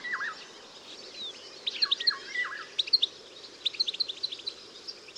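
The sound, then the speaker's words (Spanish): A Eurasian golden oriole sings short, fluting whistled phrases from the tops of willows growing on a shore, while other small birds chirp busily and repeatedly over a soft outdoor background. “En las copas de los sauces que crecen en la orilla, canta la oropéndola.”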